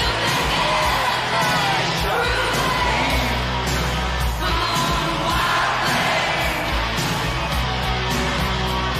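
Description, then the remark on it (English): A large crowd of stadium fans roars and yells continuously, shouting a player's name and singing along, a dense wall of shouting voices with occasional louder whoops and bellows. “The fans were getting involved, shouting his name, singing along.”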